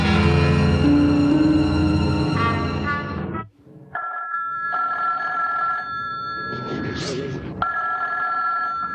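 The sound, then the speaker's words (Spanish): A telephone rings in repeated steady electronic bursts with short pauses between, fairly clear, following a dense swell of music-like sound at the start, with faint background noise underneath. “Doña Lucía no ha salido de su habitación ni atiende al teléfono esta noche.”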